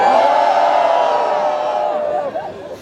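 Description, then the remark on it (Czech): A large audience roars and shouts together in one loud, sustained collective yell, the people who would like to retake the maths school-leaving exam, holding steady for a few seconds before tapering off slightly at the end. “A všichni, teďka zařvou všichni, kteří by chtěli znova zkusit opakovat maturitu z matematiky.”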